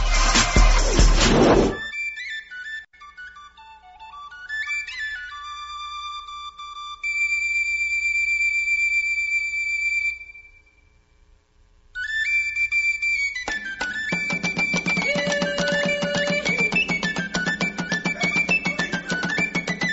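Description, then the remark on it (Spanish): A short instrumental musical bridge between segments of the radio program Momento Económico: a brief noisy burst, then a high, whistle-like electronic melody, a momentary gap, and fuller rhythmic music with a steady pulsing beat. No one speaks. “Vamos a hacer un breve puente musical y regresamos.”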